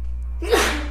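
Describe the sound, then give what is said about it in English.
A single sharp sneeze bursts out after a brief quiet moment, fairly loud, over a steady low background hum with no talking. “Bless you.”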